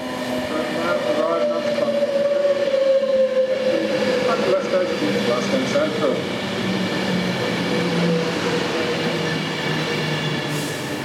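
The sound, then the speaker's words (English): A passenger train of 11 coaches running between Carlisle and Glasgow Central rolls steadily along with a loud, continuous rumble and a droning tonal whine that slowly shifts pitch, with muffled voices faintly under the noise. “Carlisle and Glasgow Central, this train is formed of 11 coaches.”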